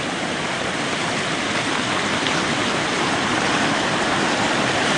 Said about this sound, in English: The creek has run really hard this year.